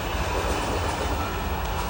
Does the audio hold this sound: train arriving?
yes